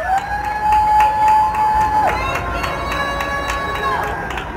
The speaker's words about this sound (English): Every night at 7 p.m., when shift changes, I lean out my window to cheer and to listen.